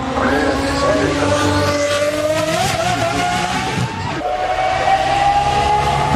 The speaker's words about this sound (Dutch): En nu denk je, dit is een Formule 1 auto. Maar dat is het niet. Nee. Het is de Aston Martin Valkyrie. De Valkyrie. Ja, dat is maar die heeft wel Formule 1 technologie aan boord natuurlijk. Hè? Precies, dat is een supercar met Formule 1 technologie.